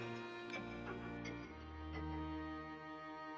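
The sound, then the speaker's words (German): Steady, regular ticks of repaired old clocks hanging and standing throughout an apartment sound about three times a second over a continuous low tonal hum. No one speaks. “Überall in der Wohnung hängen und stehen Uhren.”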